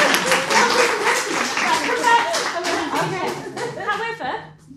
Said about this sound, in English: We need to give this lady a clap.